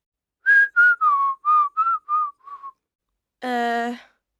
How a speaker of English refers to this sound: Can you whistle?